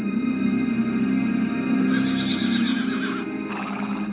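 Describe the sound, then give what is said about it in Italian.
The horse Bucephalus whinnies and neighs in agitated, wavering bursts as no one manages to mount it, loud, with a faint clatter of hooves underneath and no one speaking. “Solo l'astuto Alessandro riesce a capire il motivo per cui il cavallo si imbizzarrisce.”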